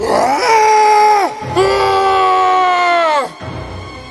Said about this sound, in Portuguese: Eram tão violentos e perigosos que ninguém se arriscava a passar por aquele caminho. Eles começaram a gritar.